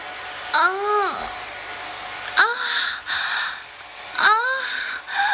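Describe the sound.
A hair dryer blows hot air in a steady, airy hiss throughout, while a voice repeatedly lets out rising-and-falling moaning gasps over it, three separate breathy vocal sounds.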